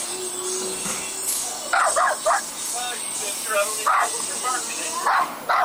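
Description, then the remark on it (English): A dog barks in short bursts, a quick pair of barks, then another, then a final cluster, over a steady hissing background noise. “That dog wants some of those hamburgers, too.”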